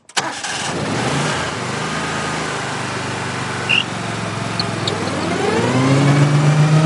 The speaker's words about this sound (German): Jedes von diesen drei Geräuschen gehört zu einem Rasenmäher.